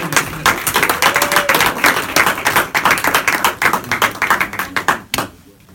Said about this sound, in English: Please give a round of applause to a man.